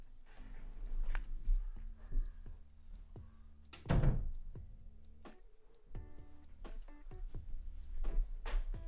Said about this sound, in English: Hold on a second. I'm going to close this door because I'm hearing all kinds.